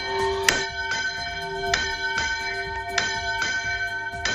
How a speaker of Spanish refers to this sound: Es el sonido hace apenas 20 minutos a mediodía del volteo de campanas con el que han arrancado oficialmente sus fiestas patronales.